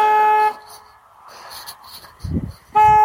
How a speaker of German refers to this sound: Weiß nicht, vielleicht spielt sich hier gleich ein Drama ab, weil ich dem Schwachkopf erzählen muss, dass eine Hupe für Gefahrensituationen da sind und nicht um andere Leute zu nerven.